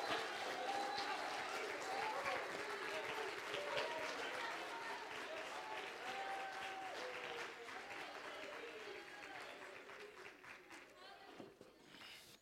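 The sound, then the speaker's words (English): An audience at a morning church service claps hands at the preacher's call in a dense, sustained burst of applause with scattered cheers and voices mixed in, staying loud and steady before thinning out near the end. “Come on and clap your hands if you really believe he's all that you need him to be.”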